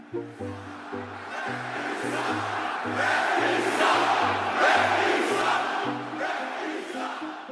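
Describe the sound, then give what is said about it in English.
A huge arena crowd of about 18,000 people roars, screams and boos continuously and loudly, swelling slightly midway, with a steady repeating low thumping pattern running underneath the noise. “Does the sound of those 18,000 people screaming at you or booing you, does it sound any different than it sounded when you started?”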